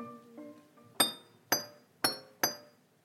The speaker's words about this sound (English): So the way that I made this song in my bedroom was that I started with me hitting a glass with a whisk. Like this.